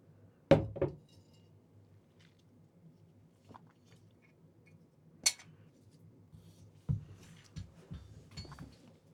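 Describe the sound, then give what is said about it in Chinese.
A door is closed and a freshly poured cup of water is set down with a sharp clink, followed by a few softer knocks and clatters, including an accidental bump of a tuning fork, amid faint background hum; no one speaks. “我回来喽，听到我关门和放杯子的声音了，我忘记关麦克风了，还听到了当的一声。”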